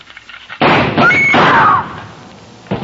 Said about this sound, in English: When Susan snapped the spring lock to open the door, the gun outside opened up.